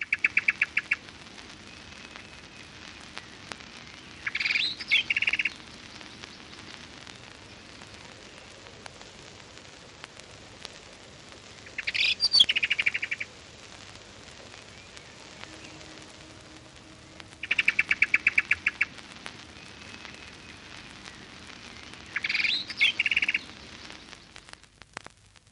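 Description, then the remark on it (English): A blackbird gives frantic, high-pitched alarm chatters in repeated short bursts every few seconds over a steady hissing outdoor background with no one speaking. “Blackbird extreme alarm.”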